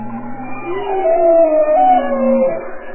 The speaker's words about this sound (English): Kate Stafford is a biologist and oceanographer at the University of Washington, and she and her colleagues have been cataloging that soundscape of the deep, like these bowhead whales and bearded seals.